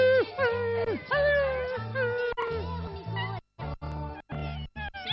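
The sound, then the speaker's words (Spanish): Several people vocally imitate an excited, happy dog that has been waiting for its owner and sees it, with overlapping whines, yips and wavering high-pitched cries in quick bursts, fairly loud, with no ordinary speech. “Un perro que espera a su amo y lo ve y está contento.”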